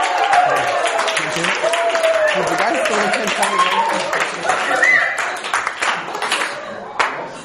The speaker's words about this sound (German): Ich danke euch, so einen tollen Beifall habe ich noch nie für mein Seminar gekriegt. Danke sehr.